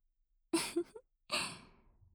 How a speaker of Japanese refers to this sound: 大きなあくび。もしかして眠くなっちゃいました？